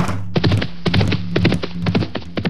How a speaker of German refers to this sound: Die drei Kinder stiegen auf das Pferd und das Pferd galoppierte los.